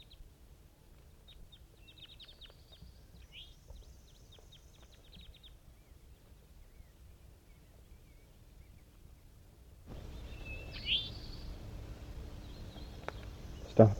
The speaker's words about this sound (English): Recording, it's almost 10 o'clock a.m. and these are the calls of the captives in response to five wild birds that flew over.